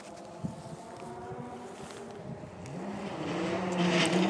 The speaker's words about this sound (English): And the next car's arriving now.